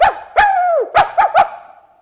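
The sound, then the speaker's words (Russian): A dog named Kuzya barks five times: a sharp yap, a longer drawn-out bark, then three quick yelps in a row, while getting underfoot as boys try to catch a parrot in a room. No one speaks. “А Кузя лаял и путался под ногами.”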